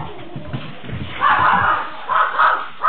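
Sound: dog barking and whimpering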